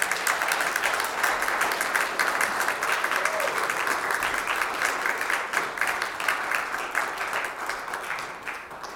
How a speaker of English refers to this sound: So I think we should give them one more round of applause.